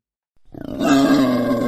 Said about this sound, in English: That's a wild boar, all right